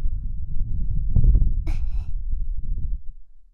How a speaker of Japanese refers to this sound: 吐息が脳に吹き込まれるの気持ちいいね。